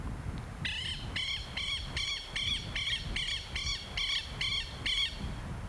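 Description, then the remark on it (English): A bandurria (buff-necked ibis) gives a loud, harsh honking call about ten times in a steady, rapid rhythm, ringing out clearly over a constant low rush of wind on the high, gravelly plains of Patagonia. “On the high, gravelly plains, I could walk for days, meeting only sheep or perhaps an ostrich, hearing only the wind and the cry of the bandurria, the bird they call the policeman of the pampas.”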